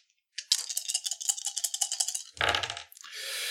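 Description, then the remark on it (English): Dice rattle rapidly in a cup or hand for about two seconds, then tumble out with a clatter onto a table, followed by a brief hiss. Fairly loud, with no voices. “And this is, again, against 2 red dice.”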